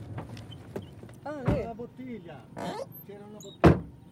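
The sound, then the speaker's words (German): People climb out of a car amid soft rustling and muffled voices, then a car door shuts with one loud thump near the end. “Wir steigen aus.”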